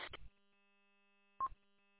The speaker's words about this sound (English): Sorry about that. I got a phone call.